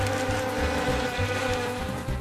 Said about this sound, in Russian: Пчелки, да что вы ко мне пристали?